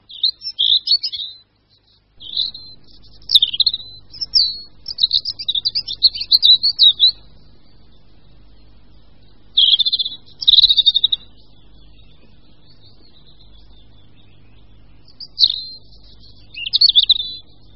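A European robin sings in short, high, warbling phrases separated by pauses, clear, over a faint low background rumble.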